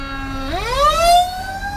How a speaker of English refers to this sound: And hold on, there's a fire truck.